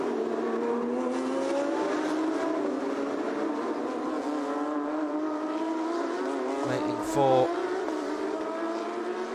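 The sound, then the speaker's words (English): Race car engines drone steadily as the final cars come round a hairpin on a formation lap under overcast skies, their pitch sliding as the cars slow and accelerate away, loud and continuous, with a brief voice speaking over the noise. “Just seeing the final cars come round the hairpin.”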